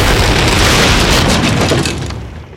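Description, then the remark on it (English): A loud explosion set off by a remote detonator roars out as a dense, rumbling blast that holds steady for nearly two seconds before tapering off into a fading rumble, with no voices present. “Cain and Brigid caught up with Grant, who pocketed his remote detonator.”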